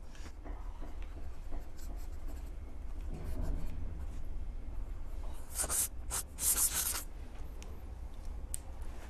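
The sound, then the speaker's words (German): A pen scratches across paper as an entry is written in a guestbook, steady strokes with a few sharper bursts of scribbling, over a low background rumble and no talking. “So, zum Ende gibt es noch den Eintrag in unser Gästebuch der Riesen.”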